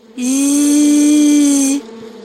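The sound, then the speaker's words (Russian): A small mosquito's buzzing, imitated by a voice as one steady, fairly loud zzz lasting about a second and a half, then stopping, with no talking. “А сейчас представь себе, что к тебе в окошко влетел маленький комарик и зазвенел.”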